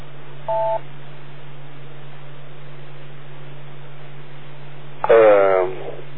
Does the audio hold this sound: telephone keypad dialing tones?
yes